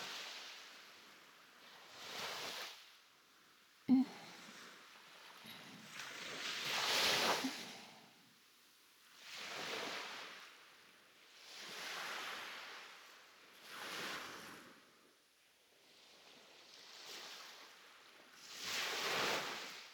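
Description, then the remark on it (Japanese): Ocean waves wash in and break near a harbor in a steady rhythm, each surge swelling and fading every couple of seconds, moderately loud, with a faint breezy hiss underneath and no voices. “ねえねえ、ただ波をじーっと見てるだけじゃつまんないし、ちょっと中、入ってみない？”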